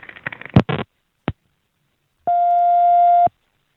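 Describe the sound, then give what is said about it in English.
An unusual, disco-like telephone ring on a call to a dental office: a few sharp clicks and rattling bursts, then a single steady, electronic tone that holds for about a second before cutting off. It's fairly loud, with no one speaking. “Yeah, I never heard a ring like that. What was that ring? It's kind of disco.”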